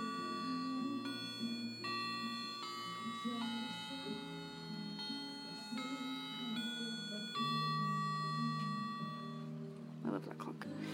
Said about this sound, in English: See, I love this clock. It's hanging on the wall above my head.